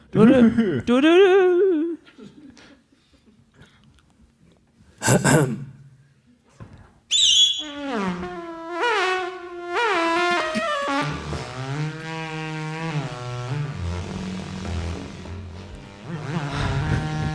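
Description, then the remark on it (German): A voice imitates a traffic-news (Verkehrsfunk) radio jingle, the kind played at the start of traffic reports: swooping vocal glides and a few breathy bursts, then a loud run of sung and hummed tones that wobble up and down. “Ich würde Ihnen jetzt, vielleicht bekommen wir einen kleinen Jingle für die für Verkehrsfunk. Der kommt am Anfang immer so...”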